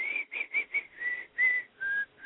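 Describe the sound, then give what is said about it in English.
A person whistles a short, bouncy pop song melody, about eight clear notes in a quick rhythm with brief gaps, fairly loud, with no talking. “I just whistle and he knows the song.”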